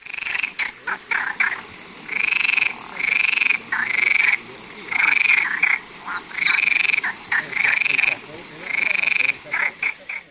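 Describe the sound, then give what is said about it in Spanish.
A loud chorus of frogs croaking in repeated bursts on the promenade of the Rato river in Lugo, Galicia, each call a rasping trill lasting about a second, with brief gaps between and a steady outdoor background; no one speaks. “Así croan las ranas en el paseo del río Rato, son un auténtico espectáculo sonoro y visual.”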